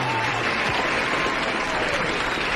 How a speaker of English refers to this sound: And like I told you, well, we've got applause now.